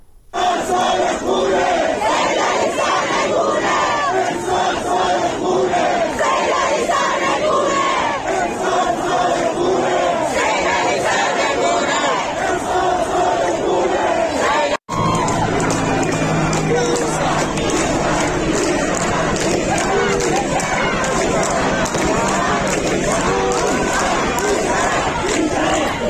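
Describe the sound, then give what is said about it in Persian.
A large crowd of protesters chants slogans in unison in the streets of Iraq, loud and continuous, with rhythmic shouted phrases rising over a dense roar of voices; the chanting breaks off briefly and resumes with the same intensity. “این صدا از عراق هست، مردم معترض، یعنی اونجا هم از آرامستان عراق فراتر رفته، در خیابان ها مردم معترضن که شعار میدن و اونجا هم درگیری شده، گاز اشکاور و تیراندازی صورت گرفته.”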